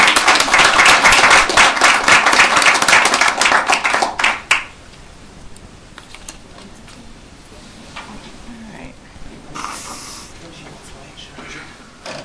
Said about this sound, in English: Thanks again for your work and for coming in this morning on a cold winter morning. We appreciate it. One final round of applause for everyone.